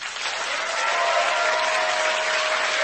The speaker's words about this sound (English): Someone shut off this applauding.